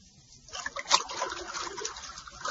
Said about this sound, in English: What's that? It's water, Bucky. And unless you tell me what I want to know, more water, much more, will continue to pour into this room until it is filled.